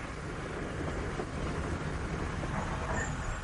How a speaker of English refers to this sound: The train had stopped at a small halt.